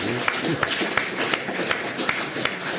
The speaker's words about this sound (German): Jetzt erkläre doch, warum du geklatscht hast.